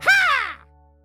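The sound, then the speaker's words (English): A single harsh crow caw rings out loud, a raspy drawn-out call that fades quickly into quiet, with no talking around it. “I've had enough of these birds.”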